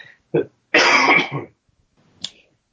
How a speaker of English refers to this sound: You know, I'm just about to cough, by the way.